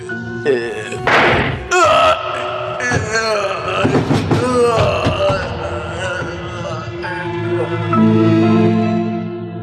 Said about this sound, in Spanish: Le han disparado. Desde ahí, desde la puerta.